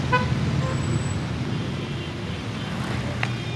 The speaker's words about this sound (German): Zusammen gehen Oma und Enkel Hand in Hand Richtung Markt, vorbei an den vielen hupenden Autos, die sich auf der mehrspurigen Straße stauen.